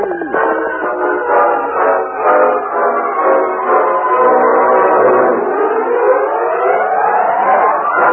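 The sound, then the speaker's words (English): A distant train whistle, heard by a crowd waiting at the small new depot in Silverton, sounds in one long, unbroken blast, a steady chord of layered tones that bends slightly upward in pitch near the end, with no voices. “Suddenly, as the distant sound of a whistle was heard, they waved their hats and cheered loudly.”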